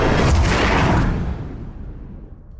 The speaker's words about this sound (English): And it's all swirling around you in this giant vortex until you find yourself in a crashing, huge explosion of sound.